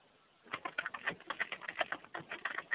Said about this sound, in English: It seems like someone is typing everything I'm saying, because I hear something there.